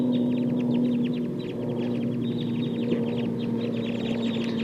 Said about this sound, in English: Start recording the wild flock now. Sounds like they're getting ready to fly.